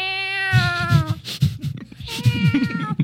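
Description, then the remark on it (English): A human voice imitates a cat with two loud, drawn-out, wavering meows, the second following after a short rough pause, with no other talking. “It's like, meow.”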